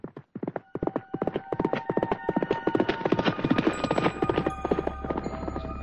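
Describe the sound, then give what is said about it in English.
A horse ridden by Baron Henderson gallops, urged to greater speed, its hooves pounding in a rapid, driving rhythm that grows denser and louder. Faint sustained tones and a low rumble run underneath toward the end. “Henderson urged the horse to greater speed.”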